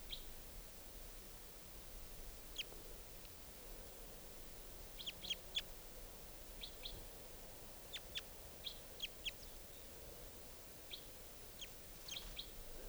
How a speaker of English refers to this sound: And the bird's still here. But it's not coming down. This is the wild bird.